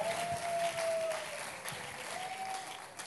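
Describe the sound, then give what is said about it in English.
An audience applauds steadily as a professor is welcomed to the podium, a dense, continuous patter of many hands clapping for about three seconds, with a faint thin whistle-like tone running over part of it. “Clap for him as he comes.”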